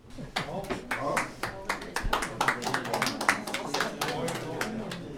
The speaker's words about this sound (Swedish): Det är inte lätt att applådera när man har ett glas i handen.